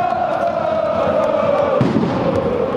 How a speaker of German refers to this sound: Fans gehen gemeinsam vom Karlsplatz zum Europaparkstadion. Sie singen, sie schreien die Parolen ihres Heimatvereins. Sie schwenken ihre rot-goldenen Schals.